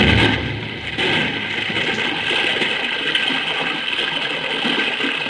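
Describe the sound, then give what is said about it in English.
Water pours and rushes in a loud, steady torrent through a gap, a continuous churning roar with no pauses and no voices over it. “Madre mia, look at the water pour through that gap.”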